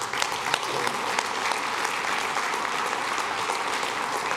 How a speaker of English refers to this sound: That probably makes them just a little bit uncomfortable, you clapping for us to say how much you appreciate them, because it is about Jesus.